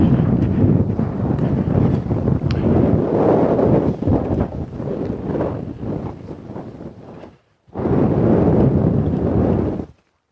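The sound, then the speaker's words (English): Strong cold wind buffets the microphone as the person walks straight into it, a loud, rumbling roar full of low-frequency thumps and gusts, dropping out briefly near the end before surging back just as hard. “The wind on my ears is... And I'm walking straight into it, so even putting the hood up isn't going to help.”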